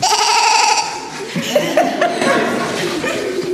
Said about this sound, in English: And the excited bleating of sheep noting the strange events.